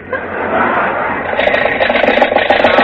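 A car engine runs with a steady rumble, then begins to sputter in uneven, choppy bursts as it struggles and falters after running out of gas, fairly loud with no talking.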